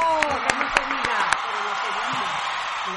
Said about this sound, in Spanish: El semana pasado yo gradué, uh-huh, de mi maestría en Londres. Ay, un aplauso para el señor. ¡Bravo! ¡Bravo!